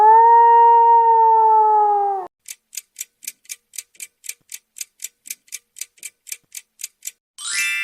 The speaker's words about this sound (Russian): Это воет волк.